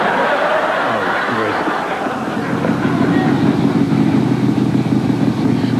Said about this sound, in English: What was that? Either a big-ass motorcycle